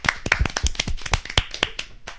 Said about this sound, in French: Bravo. Un tonnerre d'applaudissements pour le public